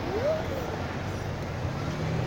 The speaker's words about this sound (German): Da kommt ein, ach so, das Laute ist ein LKW, der da hinten kommt.